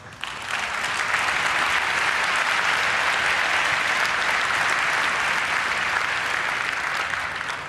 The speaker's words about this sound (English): Your applause.